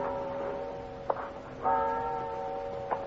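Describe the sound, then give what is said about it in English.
A large cathedral clock tower bell on the Stubelplatz square in Hamburg rings after midnight with a deep, lingering hum. It is struck again partway through, while a couple of sharp mechanical clock ticks click over the resonant tones. No one speaks. “At one end of the square is a large cathedral with a clock and a bell tower.”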